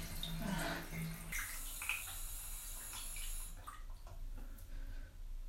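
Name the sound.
shower water running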